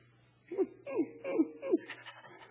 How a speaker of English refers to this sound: Oh, you got a St. Bernard. Nice doggy.